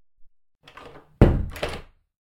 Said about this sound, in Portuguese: Você pode fechar a porta, por favor?